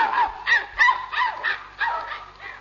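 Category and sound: animal, dog barking and whimpering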